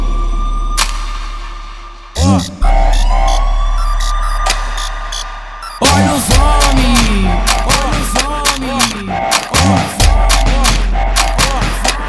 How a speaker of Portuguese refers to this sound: Ouvi barulho de sirene aqui no baile da Marconi.